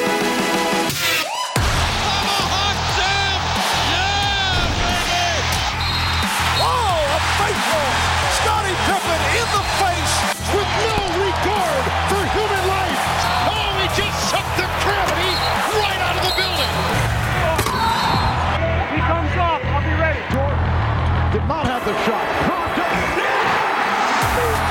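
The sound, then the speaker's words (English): A packed, standing-room-only basketball arena at an NBA World Championship Series game roars with sustained crowd cheering and whoops, while a ball thumps rhythmically on the hardwood and squeaks and calls echo through the loud, dense din. “NBA World Championship Series, a standing room only crowd on hand.”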